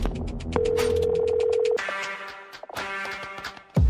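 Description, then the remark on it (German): A telephone rings at the start of a recorded phone call, a steady electronic tone held for about a second over rhythmic clicking and busy background noise, followed by muffled line sounds and a loud burst at the end. “Den Anruf hat sie damals aufgezeichnet.”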